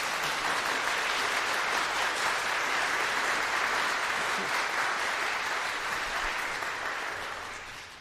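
A crowd claps and applauds steadily after a performance of O Come, O Come, Emmanuel, a dense wash of many hands at a constant loud level, with no voices, tapering off slightly in the final second.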